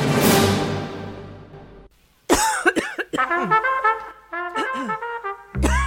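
human body sound, coughing

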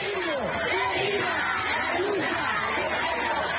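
crowd, crowd chanting slogans

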